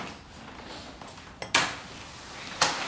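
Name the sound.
door being opened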